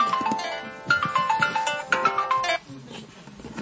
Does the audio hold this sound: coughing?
no